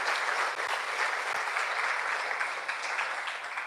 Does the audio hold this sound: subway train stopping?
no